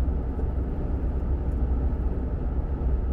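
A steady, low rumbling drone of road and engine noise from inside a truck driving on the way to Toronto on a nice day, constant and fairly loud throughout with no voices or distinct events.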